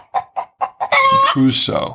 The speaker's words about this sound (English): A farmer called his rooster Robinson because he crews so.